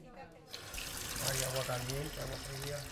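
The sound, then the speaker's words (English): A man tries out the kitchen faucet in his family's temporary home in Greenfield, 30 miles north of Holyoke; water starts running after a brief quiet moment, a steady splashing rush with a voice faintly audible underneath. “tries out the faucet and stove in his family's temporary home in Greenfield, 30 miles north of Holyoke.”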